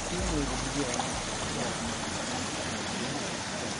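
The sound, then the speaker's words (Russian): A constant, dense roar of nine gas generators powering greenhouses opposite a village, steady and unbroken throughout, with a faint voice briefly audible near the start. “Теплицы работают не за счет электричества, а на газовых генераторах, от них и идет шум.”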